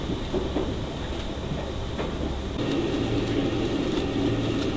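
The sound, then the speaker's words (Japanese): A JR Kyushu limited express Ariake train rolls along with a steady, dense rumble and faint rattling as it arrives at its final stop, Hakata terminal; partway through, the noise shifts and a low droning hum joins in. No one speaks. “We will soon be arriving at the Hakata Terminal.”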